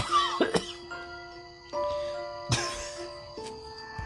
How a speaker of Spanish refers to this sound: Se me salió ahí un poco de tos.